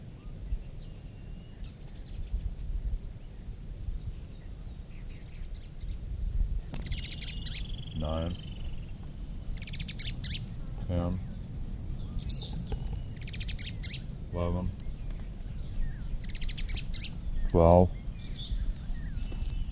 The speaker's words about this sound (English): Eight, chatter was from the supposed female. At least the bird that is singing last.